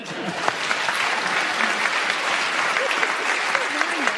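Steady, dense applause from a crowd after a panel-game whistle goes as Paul Merton is speaking, a continuous loud patter of many hands clapping without pause; the whistle itself isn't distinctly audible.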